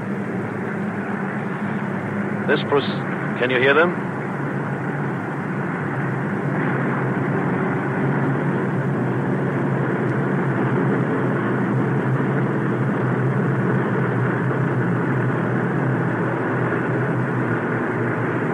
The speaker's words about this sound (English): And overhead, here comes that fleet of B-24 Liberator bombers again. 5, 10, 15, 20 of them. Perhaps you can hear them in the microphone. They're almost overhead now. And at not more than 2,500 feet or so.